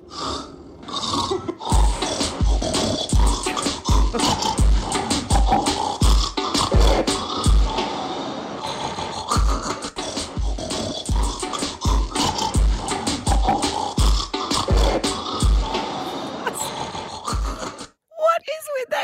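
Snoring sounds are cut and arranged into a song over a steady, thumping reggaeton-style beat. The loud, rhythmic track runs throughout before stopping abruptly near the end.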